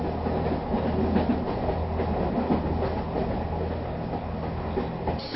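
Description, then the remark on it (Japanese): A JR Hokkaido train arriving at the Sapporo terminal rumbles steadily along the rails, its low droning hum and faint clatter of wheels holding at an even, moderate level throughout, with no voices. “We have just arrived at the Sapporo terminal. Thank you for traveling with us, and we look forward to serving you again.”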